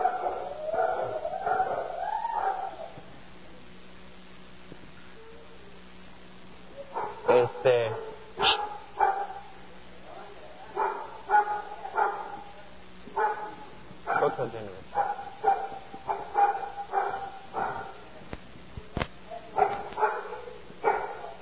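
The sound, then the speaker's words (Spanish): Dogs bark in loud bursts, starting with a drawn-out whining howl and then breaking into a long run of sharp, repeated barks with short pauses between them. “porque nuestro mejor amigo, nuestra mejor amiga, no sé qué tienen esos perros.”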